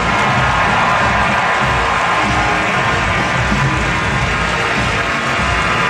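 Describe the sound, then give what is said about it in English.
A huge crowd of Giants fans at Madison Square Garden roars and cheers continuously as Michael Strahan is announced, a dense, loud wash of voices with scattered whoops and shouts filling the space for several seconds. “Sounds like cheers. Yeah, definitely cheers.”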